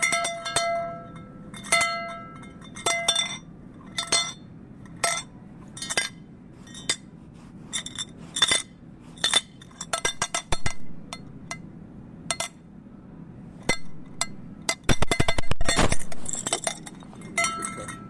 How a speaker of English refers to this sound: I'm in a grocery store and I'm recording the sound of a cowbell that's used to get help.